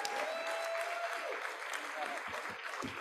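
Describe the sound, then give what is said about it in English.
An audience claps steadily in a dense, continuous wash of applause for the open source project Drupal, which took the GAD pledge this year, holding at an even level for several seconds, with a few brief tonal whistles or voices rising faintly above it. “So let's give him a round of applause and Drupal for that.”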